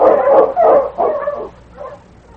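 sled dog barking

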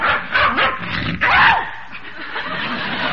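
dog barking

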